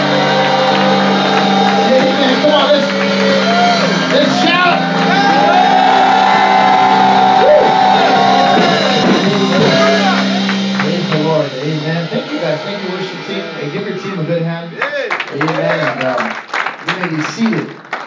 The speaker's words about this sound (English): Oh, if you love the Lord, I want you to clap your hands. Come on. Oh, if you love the Lord, I want you to keep clapping your hands. Come on, 10 more seconds. 5 more seconds.